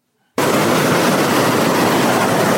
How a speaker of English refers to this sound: From a distance, one could hear the roar of white water at Fula Falls, falling down the base of the Nile and crashing on the rocks below, sending foamy splashes of water up as high as 5 feet.